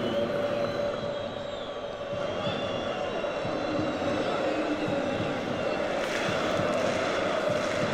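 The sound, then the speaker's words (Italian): A stadium crowd of Parma away fans in the away sector applauds steadily for the full stretch as player Pellegrino is substituted off, a dense wash of clapping over a roar of fan voices that stays loud throughout and swells slightly near the end. “Pellegrino intanto si prende gli applausi dei tifosi del Parma nel settore ospiti.”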